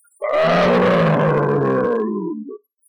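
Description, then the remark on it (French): A single loud roar from a big woolly-furred Siberian tiger in its cage after a whisker hair is yanked out, rough-edged, lasting a couple of seconds before trailing off into a lower growl, with no talking. “Rugit-il.”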